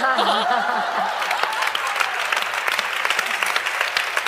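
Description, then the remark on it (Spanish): Audience applause for the performer's mother-in-law, who is sitting in the audience: a dense steady clatter of many hands clapping for several seconds, with a brief voice and a few chuckles at the start. “¡Un aplauso a la suegra!”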